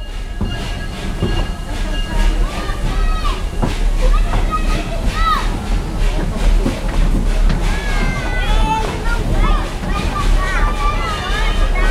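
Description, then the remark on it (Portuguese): The Maria Fumaça steam train of Tiradentes runs steadily on its route from Tiradentes to São João del Rei, recorded in 2015 on a digital recorder. A continuous loud rumble and clatter with high metallic squeals rising and falling, while indistinct voices murmur underneath. “Esse trem não é efeito especial, é o trem de verdade, a Maria Fumaça de Tiradentes, ouça só.”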